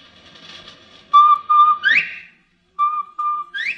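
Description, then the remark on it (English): A bobwhite quail's whistled call, given twice: each time two short, level notes followed by a sharp, rising 'white' note. Clear and fairly loud, with no talking. “You hear that, Will? That's old Bob White. He thinks there's another bird up here.”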